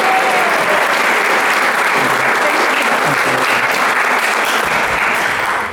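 Sustained, loud applause from an audience, a dense steady wash of many hands clapping that holds evenly for several seconds before beginning to taper at the end.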